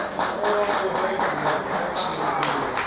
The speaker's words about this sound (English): Now, come on, give him a round of applause. They're doing good.